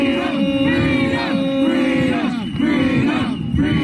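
Protesters playing roles in a mock emergency and security exercise at Pearson Airport, Canada, yell and chant loudly and continuously, many voices overlapping in rising and falling shouts with no pauses across the whole stretch.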